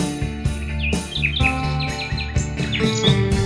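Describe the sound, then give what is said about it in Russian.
Bright, quick nightingale chirps and warbling trills flutter repeatedly over a steady, full musical backing with a regular beat, the birdsong sitting clearly on top of the instruments. “Заводит песню звонкую влюбленный соловей своей любимой пташечке, он посвящает трель.”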